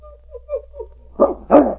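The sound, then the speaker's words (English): An excited dog, Buna, on a leash by dog tracks under a tree, whines softly a few times, then lets out two loud, sharp barks, the second slightly stronger than the first. “See how excited he gets? He knows he's been here before.”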